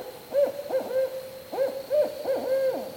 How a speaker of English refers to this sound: The barred owl is very common here in Maryland. So the barred owl sound kind of sounds like, who cooks for you? Who cooks for you?